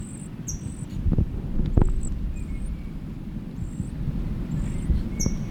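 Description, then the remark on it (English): A chick's thin, high-pitched begging peeps repeat in short bursts, about eight times at an uneven pace, as a finger is put in its mouth, over a steady low rumble and occasional handling knocks; no one speaks. “Puts the finger in his mouth and the chick is banging quite a lot.”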